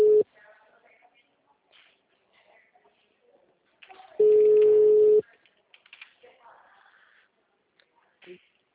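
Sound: telephone ringing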